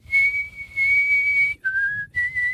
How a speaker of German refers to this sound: Ihr pfeift und ich muss raten, welches Lied es ist.